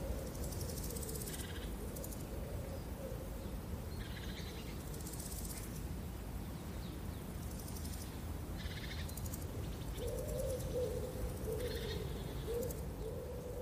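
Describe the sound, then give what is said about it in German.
Several birds chirp at dawn in short, repeated bursts over steady outdoor background noise, while a lower hooting call drifts in and out beneath them. No one speaks. “Und die ersten Vögel fangen an zu zwitschern.”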